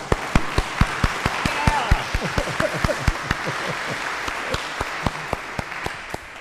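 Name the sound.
audience applauding the choir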